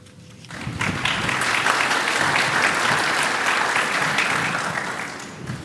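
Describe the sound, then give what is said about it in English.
An audience breaks into applause after a speaker's talk on oil and gas revenue and government budgets, a dense, steady patter of many hands clapping that swells quickly, holds strong for several seconds, then tapers off toward the end. No voices are heard. “It is not part of our tradition to give an applause to each speaker who speaks, but we welcome a change in our tradition here.”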